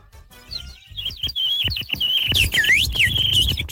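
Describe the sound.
A person whistles a bird imitation: a sustained high warbling tone with rapid trills and swooping chirps, loud and continuous for a few seconds, with no talking.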